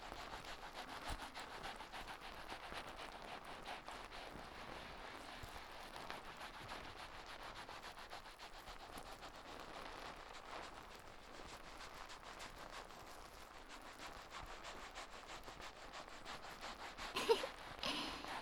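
Soft, continuous wet scrubbing and fizzing as shampoo foam is worked through the hair of the whole head in a gentle wash, a steady crackly rubbing texture with no voices, briefly louder with a sharper rustle near the end.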